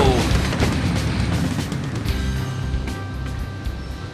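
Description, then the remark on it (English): A car being torn apart in a shredder machine in Los Angeles: a loud, continuous grinding roar with deep rumbling and a steady stream of metallic crunches and clanks throughout. “There, you just shredded your first car.”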